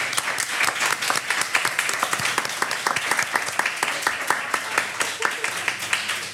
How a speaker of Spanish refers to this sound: Yo os pediría un aplauso para él porque ha estado mucho tiempo llevando.